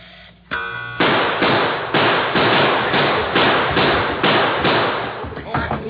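A brief ringing tone gives way to a rapid, steady barrage of loud gunshots, about a dozen in a row, evenly spaced like two guns emptying in a shootout.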